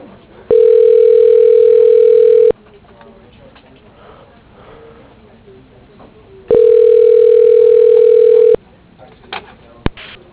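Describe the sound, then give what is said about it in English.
A telephone line tone sounds twice as an automated directory dials an extension at Stony Brook, each a steady mid-pitched hum lasting about two seconds, with a quiet pause of faint background noise between them, then a sharp click near the end. “You will now hear a list of names and extensions. Dialing.”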